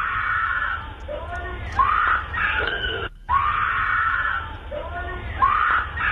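A woman screams for help in long, strained, high-pitched cries, loud and muffled, recorded late Tuesday night on a Ring doorbell camera in a neighborhood as a small white car passes by. The screaming lasts about 30 seconds, with a brief break before it resumes.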